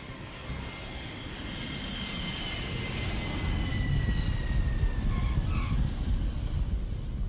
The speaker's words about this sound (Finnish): Kun kone lähestyy matkan määränpäätä, edessä on laskeutuminen kentälle.